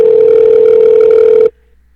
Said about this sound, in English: So okay, we're gonna try to get Greg Bishop on now, and we got the phone ringing.